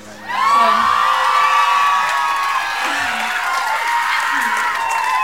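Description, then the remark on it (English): A rock show audience cheers loudly and steadily, a dense wash of shouts, whoops and high voices that swells in at once and holds for several seconds. “So thank you for cheering.”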